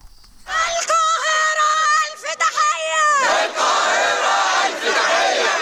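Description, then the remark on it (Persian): A large crowd of protesters in the streets of Cairo, Egypt, shouts loudly in unison in support of Palestinians and against Israel's attack on Gaza, voices rising and falling in drawn-out chanted cries, then dissolving into a dense, sustained roar of overlapping yells. “فریاد حمایت از فلسطینی‌ها در قاهره.”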